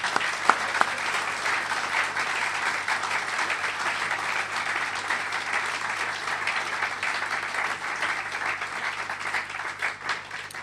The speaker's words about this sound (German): Und er gebe mir einen Applaus, ist echt super gewesen. Danke.